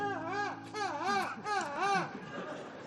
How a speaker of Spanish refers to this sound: Y era una gaviota que estaba chillando.